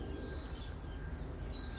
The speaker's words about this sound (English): But to take the time to watch and to listen, I mean, I can stand here and close my eyes and listen and identify the birds all around me.